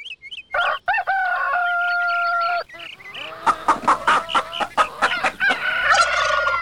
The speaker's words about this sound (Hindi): मुर्गा काट रहल छी त घर में कुछ विशेष छे कि की यौ?